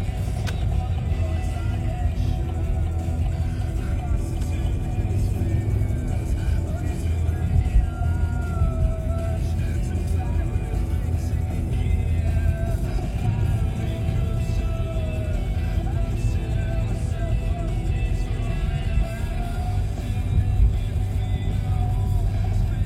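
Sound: car driving on road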